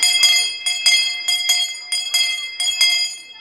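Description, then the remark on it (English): A school hand bell over 100 years old rung vigorously at a school, its bright metallic clang repeating in a quick, steady rhythm of strokes with a sustained ringing tone between them. “The school bell is over 100 years old, so this will be the first time that some of these children will have heard it.”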